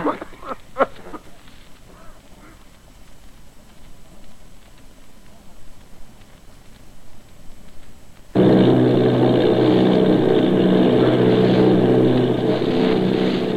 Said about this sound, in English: Army bombing plane V-843 off Bayonne, New Jersey. Lieutenant Vogt commanding 8 bombers, reporting to Commander Fairfax Langham Field.